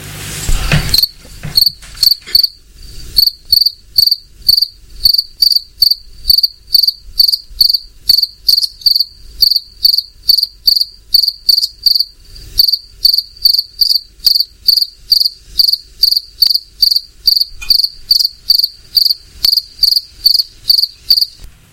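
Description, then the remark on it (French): A cricket chirps steadily and alone, its shrill, high pulses repeating about twice a second in an even rhythm, fairly loud throughout. “Évidemment, il s'agit du grillon qu'on peut entendre de jour comme de nuit en ce moment par ses fortes chaleurs.”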